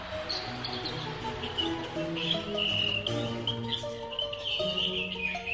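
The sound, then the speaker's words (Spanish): Birds chirp and sing continuously, high, bright calls and short trills repeating throughout, moderately loud, layered over a steady, sustained tonal background with no voices. “Te sorprenderás de todas las aves que encontrarás.”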